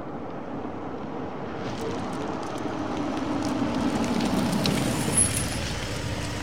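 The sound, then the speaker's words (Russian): A foreign-made car's engine rumbles, swelling as it approaches, then slows with a brief brake squeal and hiss as it comes to a stop beside a man on a road. Two men sit inside the car. No voices. “И действительно, почти сразу около него затормозила иномарка, в салоне которой сидели два плотных парня.”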